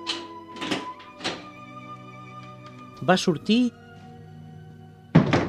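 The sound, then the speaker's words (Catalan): A door creaks open and then shuts with a solid thunk, heard beneath a soft tonal music bed while a narrator speaks. “va obrir la porta”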